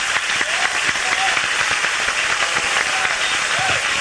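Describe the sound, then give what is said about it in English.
An audience gives the Lord a hand clap of thanksgiving, a dense wash of many hands clapping steadily at a constant loud level, with a few voices calling out faintly beneath the applause. “Let's give the Lord a hand clap of thanksgiving one more time.”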